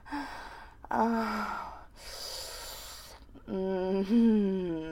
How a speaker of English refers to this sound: I'm breathing heavily and you still twitching inside me.